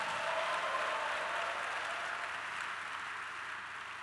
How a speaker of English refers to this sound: If you believe that, clap your hands and shout somebody.